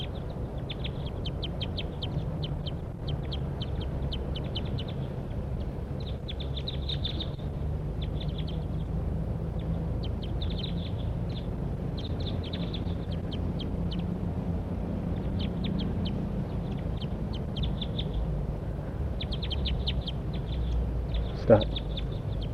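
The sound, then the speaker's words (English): Wild birds call over and over in quick bursts of high, thin chirps and trills, steady through the whole stretch above a constant low rumble, while one bird makes an approach down toward a net. “Those wild birds are calling now, pointing at the wild birds, and one's making an approach down to the net.”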